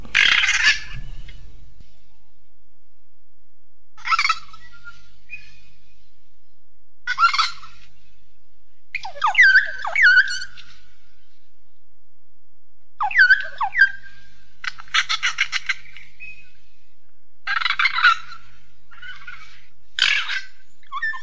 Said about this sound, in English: That's the call of the North Island Kaka. They're very often described as the sound of a creaky door.